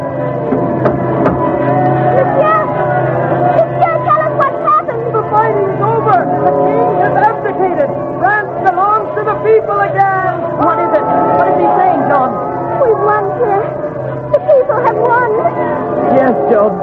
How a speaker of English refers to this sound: There's a great crowd in the street. They're running and shouting like Christmas morning.